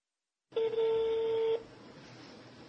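A single steady telephone tone sounds for about a second, clear and fairly loud, then cuts off, leaving a faint hiss of line noise behind it.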